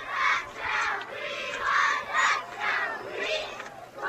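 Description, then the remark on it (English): A group of 60 cheerleaders at a football game chants a cheer in unison, loud rhythmic shouted bursts repeating about twice a second over a steady background hum. “The 60 cheerleaders are all doing a cheer.”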